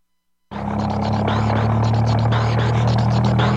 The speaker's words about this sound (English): What a funny noise it's making. It's talking to us. All engines talk.